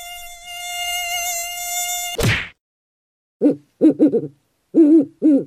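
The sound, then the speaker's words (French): A steady, high-pitched mosquito whine drones on for about two seconds, cuts off with a short burst of noise, and then a series of hooting calls follows. “Sais-tu vombrir comme un moustique?”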